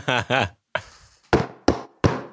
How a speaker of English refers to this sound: There's a gentle knock at the door.